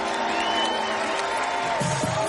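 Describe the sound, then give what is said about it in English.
A large live-show audience cheers and whoops in a dense, steady roar that holds at full volume for a couple of seconds, with scattered shouts rising above the din, answering a call to make some noise for trap jazz. “Make some noise for trap jazz.”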